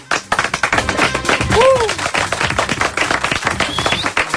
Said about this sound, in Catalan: Un aplaudiment per ell.